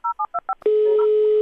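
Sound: telephone keypad dialing tones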